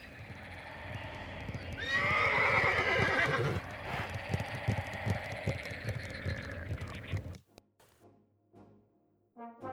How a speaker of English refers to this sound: If you're ever on the road outside of Terrytown and find yourself close to the river, hold still. Be silent. You may hear the horsemen riding still.